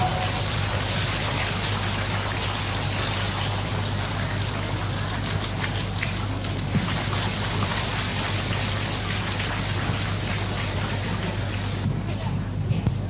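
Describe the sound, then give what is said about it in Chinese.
Sustained applause from a large audience welcoming Lu Junhong to look at totems, a dense, steady crackle of many hands clapping at an even loudness for about thirteen seconds with no one speaking over it. “让我们用最热烈的掌声恭请尊敬的卢军宏台长为我们慈悲看图腾。”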